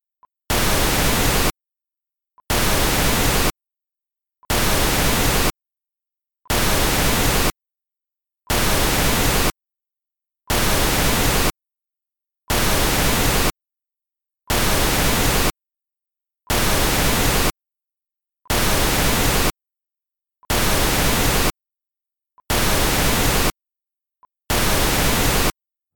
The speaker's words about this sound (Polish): Mam nadzieję, że udało Ci się zarejestrować nasilenie wpływu maskowania przy zbliżaniu się końca tonu testowego do początku szumu. Sygnał testowy stracił na intensywności w porównaniu do sytuacji, kiedy był znacznie oddalony od szumu.